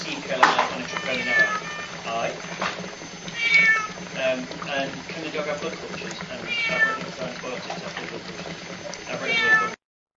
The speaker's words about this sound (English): And as soon as we put the cat back in the oxygen cage, he became a bit more dyspneic. You can see in the video here, he is much more stressed, he is meowing a lot.